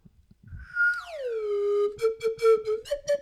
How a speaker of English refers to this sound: Oh, God, it's harder than it looks. Maybe you should use the G. Maybe you should use the G slide whistle.